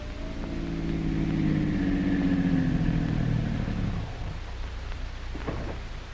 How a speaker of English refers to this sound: The scene, the street in front of Dr. Christian's office. His car pulls up to the curb.